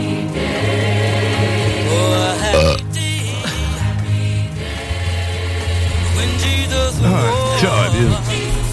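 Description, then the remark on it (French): A loud, drawn-out burp into a microphone on the 96.9 radio show Dans la sauce, low and croaky, stretching through several long pushes with brief breaks between them and no talking. “Hey, le pire, c'est qu'il me fait signe, il me demande d'ouvrir son micro, pis l'affaire la plus intelligente qu'il trouve à faire dedans, c'est de rater le gros cochon.”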